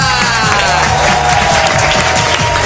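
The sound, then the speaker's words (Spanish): A large audience at a show in Gran Canaria applauds loudly and steadily, a dense wash of clapping and crowd noise lasting the whole moment, with a low rhythmic rumble of music underneath. “una persona para la que todavía no habíamos pedido un aplauso como este que te van a dar.”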